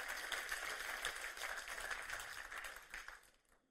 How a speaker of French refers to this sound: Combien peuvent applaudir l'esprit qui nous a été envoyé?